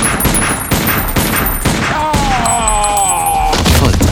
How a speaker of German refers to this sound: Ihre Waffe ist eine Desert Eagle. Alle 9 Schuss verbraucht. Kein Magazinwechsel.